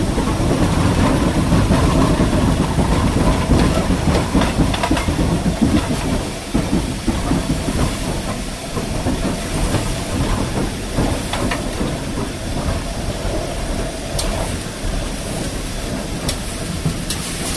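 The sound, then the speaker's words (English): A steam locomotive reverses slowly across the points at the end of a station, with clanking wheels and hissing steam, the dense mechanical noise easing slightly as it comes to a halt, without any talking. “just moving backwards now. We're across the points at the end of the station. The fireman's down there doing his stuff. And we'll bring the engine to a halt.”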